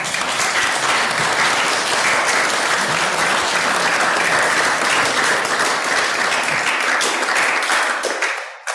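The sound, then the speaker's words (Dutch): An audience applauds steadily for about eight seconds, a dense, even wash of many hands clapping that holds its loudness before tapering off at the very end. No one speaks over it. “Vragen of applaus?”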